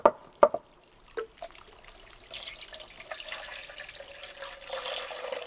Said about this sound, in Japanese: それでは掛け湯をしていくね。